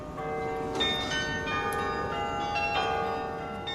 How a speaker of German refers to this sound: Freitagmorgen, kurz vor 9:30 in Alkmaar. Ruhe vor dem Ansturm. Der Glockenspieler hoch oben im Turm des alten Wagenhauses spielt sich ein. Den ganzen Tag wird man sein Spiel nicht mehr so ungestört hören können wie jetzt.